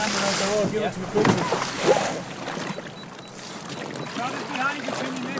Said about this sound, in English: The water around us is dark and choppy. We are in the Deco Delta, a rigid inflatable boat designed to maintain buoyancy even when large quantities of water are washed aboard.